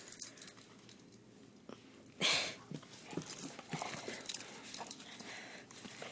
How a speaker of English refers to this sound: We've got a playful dog on our hands.